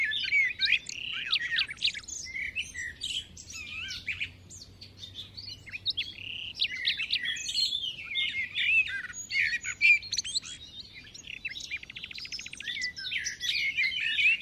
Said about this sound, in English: this bird that sings these really beautiful solos at night, and then gets swamped by the dawn chorus in the morning